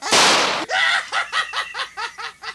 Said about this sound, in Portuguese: Não, eu só quero que o senhor ouça eu dar o último tiro nele pra ver se ele morre! Ó!